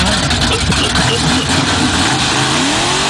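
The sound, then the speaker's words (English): A heavy-horsepower car engine strains loudly as it is hard to start, then catches, settling into a heavy roar that climbs in pitch as it revs near the end. “Sounds like a tough starting car.”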